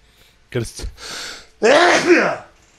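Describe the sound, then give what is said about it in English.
A sharp sneeze bursts out, with a quick breathy intake before it and a loud, vocal second burst after, standing alone without any speech around it. “Bless you.”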